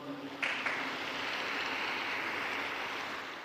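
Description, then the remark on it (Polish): A large crowd breaks into steady applause after a brief moment, given as a greeting to Eastern Christians, Catholic and Orthodox, who will celebrate Christmas the next day. The clapping blends into a dense, even roar that holds at a constant loudness throughout, with no voices audible. “Anche un bel applauso come saluto.”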